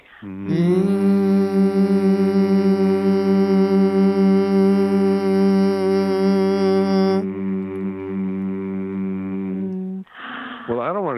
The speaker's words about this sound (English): would you do the last hum with us? Come with us, okay? Okay. It feels so good, okay? Here we go.